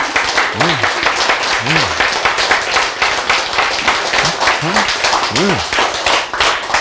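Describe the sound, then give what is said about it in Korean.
An audience bursts into sustained, dense applause, many hands clapping steadily at full volume for several seconds, with a few voices calling out briefly over the clapping. “자, 박수 한번 쳐야 되죠.”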